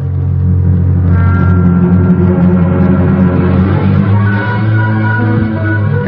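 A car engine hums and rumbles steadily, its pitch shifting slightly as the vehicle drives along and pulls up at Pfeffer's Brewery and Warehouse, with no voices.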